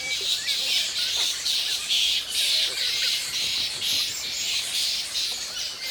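A little red flying fox colony calling: a dense, unbroken chorus of shrill squeaks and chattering cries from many animals at once, steady and fairly loud throughout, with no talking.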